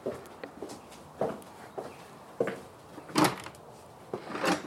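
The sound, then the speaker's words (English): The entrance door of a house is opened and closed, reached from a colonnade and up the steps on a spring day, amid a steady run of soft footsteps, with a couple of louder knocks and thuds near the end and no one speaking. “We're just approaching the colonnade and we'll go up to the steps and then head in through the entrance door.”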